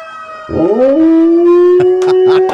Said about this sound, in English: One of the things is the ambulance has a siren, and the dog doesn't like the siren. More howling.